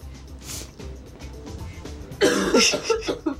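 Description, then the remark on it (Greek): A person coughs several times in a burst, loud, after a brief quieter stretch with low background noise. The coughs come in rough, uneven bursts. “Ναι, τέλος πάντων, χάωθηκα τώρα με το βήχα αυτόν.”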